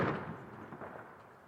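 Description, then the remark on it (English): A single far-off gunshot at night, heard from a campsite two hours after nightfall: a muffled low boom followed by a long, rolling echo that fades slowly. No voices, just the faint report carrying from a distance. “2 hours and 30 minutes after I'd last seen Jesse, and 2 hours after nightfall, I heard a gunshot.”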